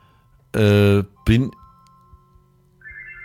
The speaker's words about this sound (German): Ja, das ist hier klingelt das Telefon, das Festnetz. Ich habe noch einen Festnetzanschluss.